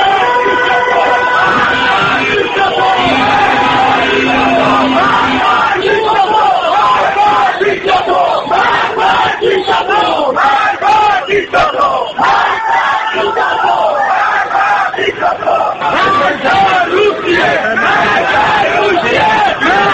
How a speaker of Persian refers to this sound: تظاهرکنندگان علیه دیکتاتوری شعار می‌دادند و خواستار استعفای دولت بودند.